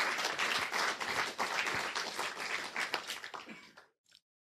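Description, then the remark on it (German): A crowd bursts into steady applause for a candidate who played against a computer, after an audience vote, many hands clapping in a dense, loud wash that thins out and fades before stopping abruptly near the end. “Ein Applaus für unseren Kandidaten.”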